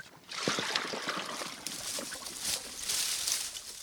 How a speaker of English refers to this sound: Bertoto wades in to fetch the animals some water.